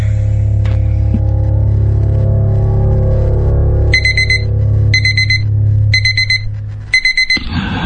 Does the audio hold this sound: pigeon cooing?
no